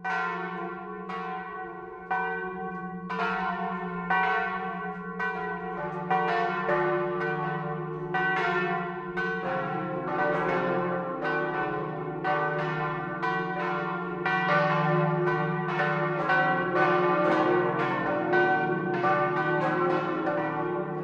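Five church bells of the parish church of St. Josef in Neuenburg vom Wald, Upper Palatinate, Germany, cast in Munich in 1947, peal together in a full, continuous noon ringing at 12 o'clock, overlapping strikes tumbling in an irregular rhythm with a sustained low hum beneath, loud and resonant throughout.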